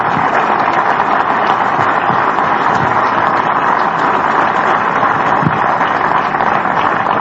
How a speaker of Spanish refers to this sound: y por eso desde aquí los quiero felicitar, y desde aquí, maestro Juan Díaz de la Torre, darle un aplauso muy grande a todas las maestras y maestros de nuestro país.